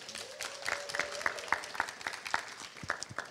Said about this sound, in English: So let's give a round of applause for Team 9.